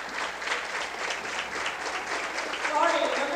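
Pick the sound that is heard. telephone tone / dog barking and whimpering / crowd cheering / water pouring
crowd cheering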